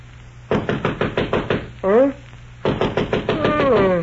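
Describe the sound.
A rapid series of firm knocks on a wooden bedroom door, followed by a brief muffled voice, then another urgent burst of knocking that blends into a voice calling out.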